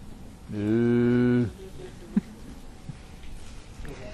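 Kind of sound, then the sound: animal, cow mooing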